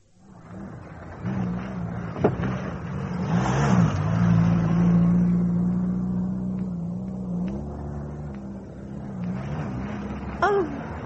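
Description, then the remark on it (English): A car engine on a lonely road miles out of town idles with a low steady drone, then revs up and holds a higher pitch before settling back down, with a few faint clicks near the end. “The petrol's all right. I wonder if it's the fan belt.”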